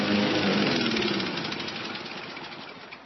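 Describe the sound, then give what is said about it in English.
A lawnmower engine runs steadily with a rough, buzzing drone, loud at first and easing off slightly over a few seconds. No one speaks. “1 gallon of fuel in a lawnmower will mow about half your backyard.”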